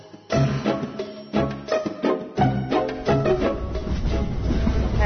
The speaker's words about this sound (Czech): Buka, zato što smo u poslednjem vagonu, a što tako, je normalno. Tako je, i izašli smo iz tunela.